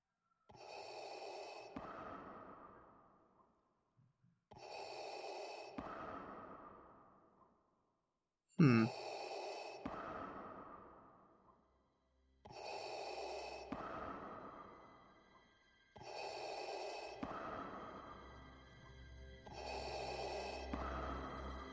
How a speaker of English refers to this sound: Darth Vader breathing, okay.